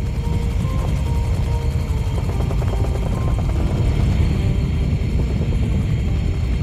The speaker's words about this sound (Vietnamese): Bộ Tổng tham mưu mới bèn điều động chiến đoàn B, thủy quân lục chiến đang hành quân ở Cai Lậy, được trực thăng Chinook bốc về Sài Gòn